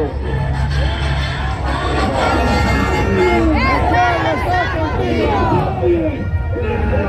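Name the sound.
crowd chanting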